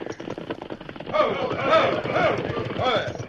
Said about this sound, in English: Hey, several riders coming towards us. Yeah, wonder if they... Look, they got bandanas covering their faces. Outlaws warned us to stop. Oh, whoa, whoa, whoa, whoa there, whoa.